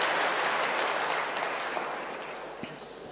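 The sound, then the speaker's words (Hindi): A crowd applauds steadily for the audience members who raised their hands. A dense wash of many hands clapping at once gradually tapers off over a few seconds, with no voices over it. “तो उनके लिए तो आप ताली बजा दो, जिन्होंने हाथ उठाया है।”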